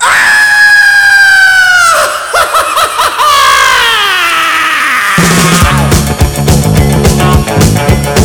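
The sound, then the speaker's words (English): A loud, sustained scream with a wavering pitch breaks into shrieking, laughter-like cries, then slides downward before a rhythmic musical beat takes over in the final seconds. “So here's some screaming.”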